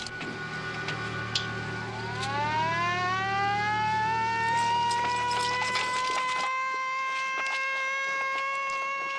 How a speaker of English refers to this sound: hit the siren.